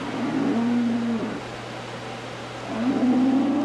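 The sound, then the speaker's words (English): A cow lets out two long, low moos in a dairy barn at a fairground as light rain begins, each a steady drawn-out bellow separated by a short pause, over a constant low background hum. “That's a cow making some noise.”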